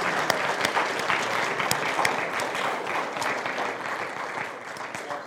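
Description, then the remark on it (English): An audience claps steadily as a round of applause in thanks and praise, the dense applause holding at an even level for several seconds before starting to taper off, with no one talking over it. “So can we just show them give them a round of applause, thanks, praise today.”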